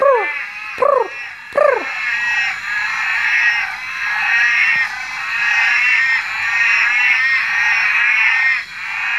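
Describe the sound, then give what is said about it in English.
A loud chorus of northern orange-eyed tree frogs (Litoria xanthomera): a few rising, whooping cat-like calls at the start, then a dense, continuous overlapping trilling that fills the rest, steady, with no voices. “Now, I can only hear one species calling, and that's the northern orange-eyed tree frog, Latoria xanthomera.”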